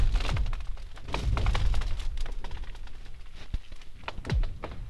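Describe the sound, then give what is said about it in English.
Lake ice booming and cracking, with repeated deep thuds and sharp snaps, some sliding down in eerie whooping sweeps, rolling on continuously without any voices, as the sun rises or sets after cold nights and warm days cause extreme temperature changes. “cold nights and warm days, and the temperature change is pretty extreme, that, you know, as the sun is coming up or going down, it's like it's just constantly going on, this booming and cracking.”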